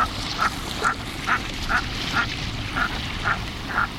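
A merganser calls in a steady series of about nine short, mid-pitched croaks, evenly spaced roughly twice a second, heard over a constant rushing background noise with no talking.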